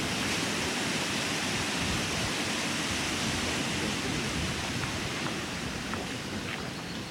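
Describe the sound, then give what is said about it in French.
A steady rush of flowing river water fills the whole stretch, a dense unbroken wash of hiss and churn with no voices and no change in level, heard while walking along the river, whose water is fluorescent green and holds many trout. “Et là, on longe la rivière.”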